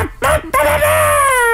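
A human voice imitates a rooster's crow: a single loud, drawn-out, strained cry that rises and holds for about a second, preceded by a couple of short breathy bursts.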